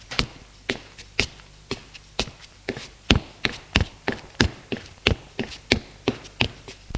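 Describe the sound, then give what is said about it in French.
A steady series of firm footsteps climbing the stairs to the second floor of a house, roughly two per second, each a sharp knock or tap with no voices and only a faint background hum between steps. “Curiosité me prend de monter au deuxième étage.”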